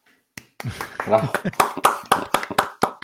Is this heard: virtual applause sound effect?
yes